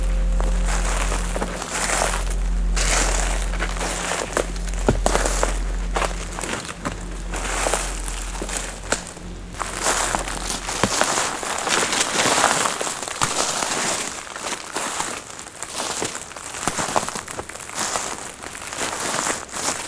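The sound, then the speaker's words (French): Footsteps crunch and crackle through a carpet of dry dead leaves and dried twigs on a woodland floor in a steady, irregular rhythm, with a low droning hum underneath during the first half. “Tapis de feuilles mortes.”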